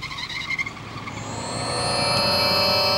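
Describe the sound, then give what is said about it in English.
A pickup truck's engine revs and climbs steadily in pitch as Jillian turns the truck around and drives away past Spock, growing louder over a few seconds with a faint squeal of tires, no voices. “Her mouth agape, Jillian turns the truck around and stares at Spock as she passes.”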